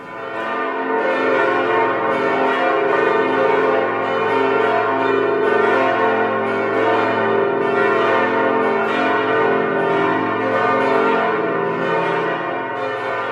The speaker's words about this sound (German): Na, habt ihr es erkannt? Das waren die Glocken des Lübecker Doms. Ja, auch sehr eindrucksvoll.